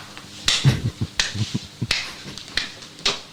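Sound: slow clap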